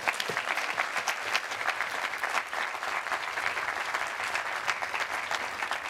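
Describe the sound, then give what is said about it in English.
A large audience of students joining Cornell claps steadily for several seconds, a dense, even wash of applause with no voices standing out and no clear break in the sound. “Give yourself a round of applause for making such a smart choice.”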